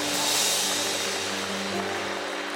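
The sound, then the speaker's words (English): A large audience claps together in praise of God in a steady, dense wash of applause that holds loud and even throughout, with a low sustained tone humming beneath it. “All let's clap our hands and lift our voice and magnify God.”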